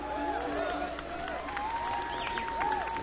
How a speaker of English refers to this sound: See, man, you don't have any family here, so that's tough. I definitely heard more people cheering for it.